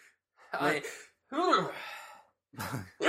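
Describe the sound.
A rapid run of four sneezes, each a sharp voiced burst with a breathy rush of air, the second one longer and more drawn out than the rest.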